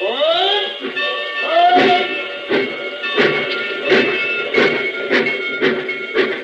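train

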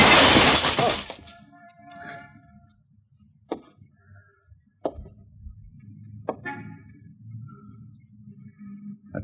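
window glass shattering

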